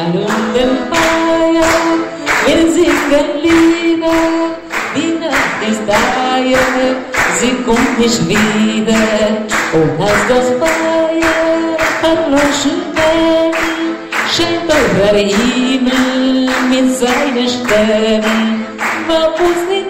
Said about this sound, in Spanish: ¿Seguimos viajando por Argentina? Segunda vuelta con palmas, a ver.